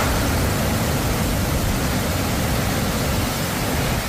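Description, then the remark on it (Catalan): The flooded riu d'Aro at la Bisbal, usually dry but now carrying over 500 cubic metres per second after a llevantada storm, rushes past in a steady, loud roar of churning water, unbroken for the whole stretch, with deep rumbling beneath a broad hiss and no voices. “I aquest és el so, ara mateix, del riu d'Aro, el seu pas per la Bisbal.”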